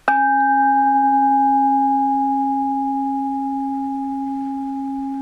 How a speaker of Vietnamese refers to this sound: Nghe, mình nghe gì? Mình nghe tiếng chuông đó, nhớ không?